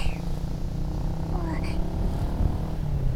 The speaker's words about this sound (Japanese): だいぶ慣れてきました。バイク、風が気持ちいいですね。